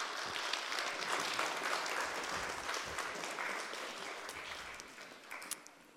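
Sustained audience applause welcoming a guest at a gathering in Brommaplan, a dense, steady wash of many hands clapping at an even level for several seconds, with no voices standing out.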